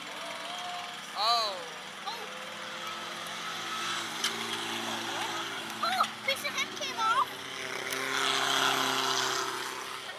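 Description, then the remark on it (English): A race car burnout: the engine revs in sharp rising and falling bursts, then a broad, hissing roar swells toward the end, with indistinct voices underneath. “Burnout going on over there.”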